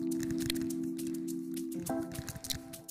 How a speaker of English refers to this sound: Are you really chewing in the mic?